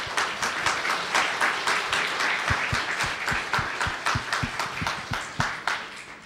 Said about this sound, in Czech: takže prosím, pojďte. Myslím, že můžeme potlesk.